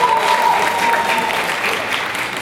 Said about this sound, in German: Großen Applaus für dich.